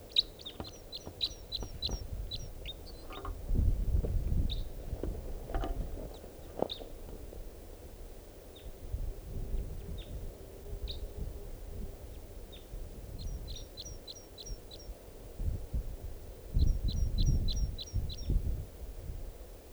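A wild bird sings in song flight at 6:32 p.m., with two birds present, bursts of rapid, high, thin repeated notes coming in short series with pauses between, over intermittent low rumbling noise.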